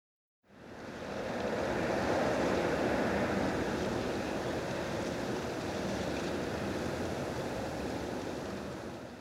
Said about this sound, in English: This is London in England. It's raining again.